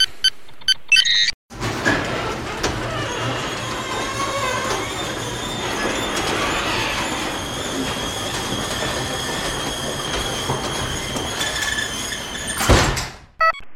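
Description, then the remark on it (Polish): A large, heavy studio door, worked by special switches, grinds open with a long, steady rumbling and metallic whine that lasts around ten seconds, then stops with a louder clunk. No voices. “Tutaj w studio mam takie wielkie drzwi, specjalne przełączniki”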